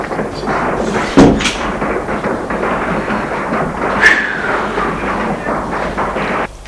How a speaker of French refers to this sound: Elle ferme la porte.